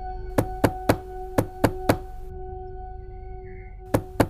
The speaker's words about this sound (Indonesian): Setelah alarmku mati, tiba-tiba ada suara ketukan pintu.